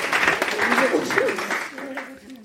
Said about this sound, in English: Well done! You managed it! Round of applause!